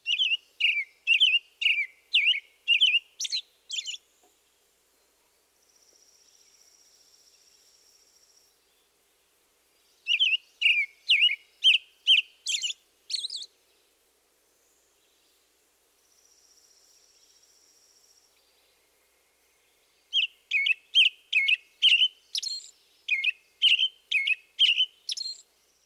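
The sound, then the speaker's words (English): An American robin sings clear, caroling phrases in three separate bursts of quick notes, each lasting a few seconds, with a thin steady insect-like buzz filling the pauses between them. “Now the robin.”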